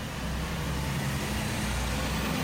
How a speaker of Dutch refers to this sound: Want alleen dat verkeer, hè? Dat verkeer.